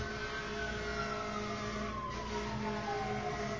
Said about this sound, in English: One wonders how it would be if these sirens would play, say, Beethoven or something like that.